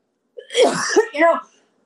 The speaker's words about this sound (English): Hold on, I have to cough.